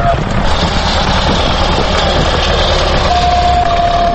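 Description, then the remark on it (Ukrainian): Loud, steady machinery roars throughout as tractors and chainsaws fell trees in an old monastery forest near the village of Lisnyky, Kyiv region, Ukraine, with a sustained high motor whine rising over the rumble near the end. “Тут мав бути заказник, але зараз ревуть трактори й бензопили.”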